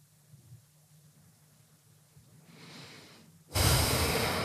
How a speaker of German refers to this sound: Atme ein paar Mal tief ein und aus. Und beim Ausatmen lasse alle Gedanken, die noch da sind, einfach ziehen.